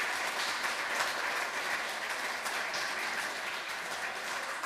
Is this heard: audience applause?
yes